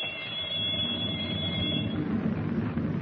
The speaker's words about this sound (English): In the control compartment, he holds Captain Denning at gunpoint while the torpedo firing alarm bell rings through the steel hull.